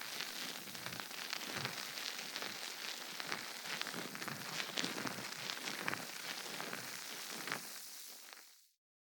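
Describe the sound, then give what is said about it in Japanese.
Steady ASMR fizzing and bubbling, a dense crackle of tiny pops and hisses that stays level for about eight seconds before cutting off. No one speaks over it. “シュワシュワ。”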